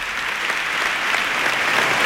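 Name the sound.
theatre audience applause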